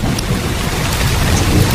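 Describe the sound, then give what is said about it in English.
Steady rain hisses loudly while a deep, continuous rumble of thunder rolls underneath, with no voices present. “It's rain.”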